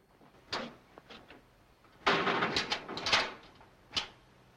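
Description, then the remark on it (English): A jailer closes a heavy barred cell door, which rolls shut with a loud metallic grinding rattle, framed by a few sharp clanks before and after. No one speaks. “The jailer closes the barred door behind him.”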